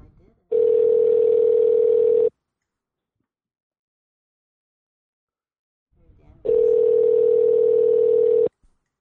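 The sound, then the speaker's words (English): A phone line rings out as a third person is dialed into a conference call: two long, steady buzzing ring tones, each about two seconds, separated by a pause of roughly four seconds, clear on the line. “Barb might be very slick here and just call her in while we're both on the phone”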